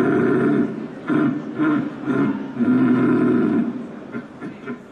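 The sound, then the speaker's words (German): A person imitates a rutting stag's roar with a series of deep, guttural bellows, each lasting a second or so, loud, rising and falling in long groaning pulses. “Der Sieger oder die Siegerin sowie die Plätze 2 und 3 können dann morgen bei der Europameisterschaft im Hirschrufen antreten.”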